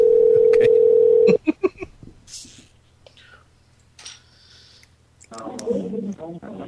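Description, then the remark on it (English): A steady telephone dial tone gives way to a quick series of keypad beeps as a number is dialed to call a woman back, followed by a quiet line with faint clicks, then her voicemail greeting starts talking. “Hold on, call her back.”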